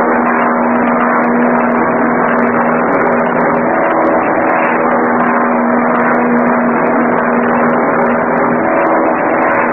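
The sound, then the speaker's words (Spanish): A loud, steady airplane engine drones continuously as the plane climbs to 3,000 metres and enters the clouds, its deep hum unwavering throughout with no voices or other sounds. “El avión penetra a las nubes que cubren el cielo.”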